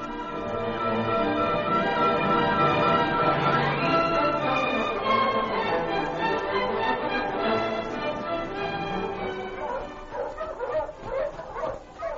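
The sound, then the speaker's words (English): A school bell at a schoolhouse, the one that was found, rings steadily and loudly, its clanging tones sustained and overlapping for several seconds before growing more uneven toward the end. “Do you hear the bell? The one we found.”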